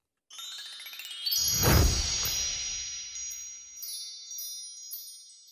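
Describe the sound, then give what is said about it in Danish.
A bright bell chime rings out with a soft strike, its metallic tones sustaining and slowly decaying over several seconds, heard alone with no talking. “Du lader den ringe ud i dag.”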